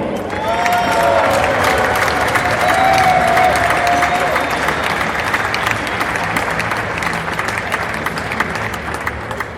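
Steady, dense applause from an audience at a tournament prize-giving, for the award for the tournament's best player, fills the whole stretch, with a few whistles and cheers rising over the clapping before it eases slightly toward the end.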